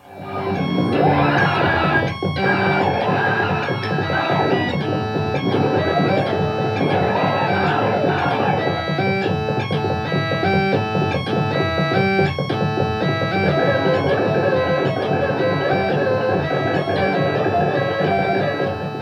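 Busy electronic keyboard music played by two keyboard players, one on a sampler, with synthetic percussion tapping out a steady rhythm, layered bright tones piling into a dense, somewhat chaotic texture that stays loud and even throughout, with no talking.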